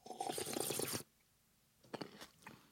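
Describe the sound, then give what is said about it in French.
Crunchy mouth noises in an otherwise silent moment: a dense, steady second of crackling like chewing, then a pause and a few short, softer smacks and clicks. No one speaks. “Nos amis misophones apprécieront les. Chut, on a dit silence. Les bruits de bouche.”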